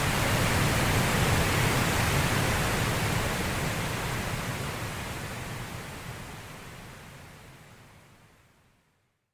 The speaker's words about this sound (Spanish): el ruido rosa hace una diferencia en las variables que se pueden captar